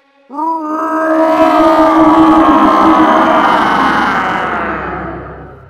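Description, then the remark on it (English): A single huge victory roar after finishing building a fortress bursts in and holds for about five seconds, starting as a strong pitched bellow, turning rough and gravelly, then tapering off slowly. No other sounds or talk. “But this is a victory. We need to roar.”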